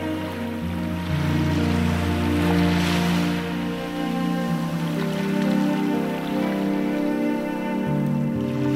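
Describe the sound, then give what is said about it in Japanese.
Soft ocean waves wash and swell in the background beneath sustained, gentle musical tones, a steady, calm surf with no one speaking. “波の音、”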